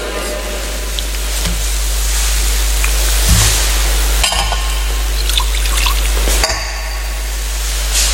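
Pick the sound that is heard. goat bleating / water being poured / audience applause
water being poured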